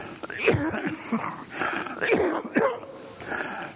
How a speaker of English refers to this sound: Excuse me, I'm still coughing a little, but I'm a whole lot better than I've been.